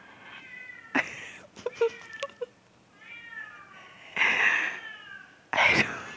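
A cat meows loudly and insistently, with several drawn-out, wavering cries separated by brief quieter stretches, the last two meows the longest and strongest.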